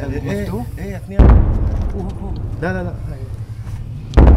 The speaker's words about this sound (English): He barely pauses in his story when the first of two Turkish mortars is launched from a position somewhere behind us.